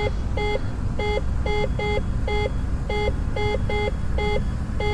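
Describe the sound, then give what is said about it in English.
A repeating electronic cockpit warning alarm in an aircraft at about 3,335 feet altitude beeps steadily in short tonal pulses, about two per second, loud over a constant low engine-like rumble, with no one speaking. “When that alarm is about to go off, probably the.”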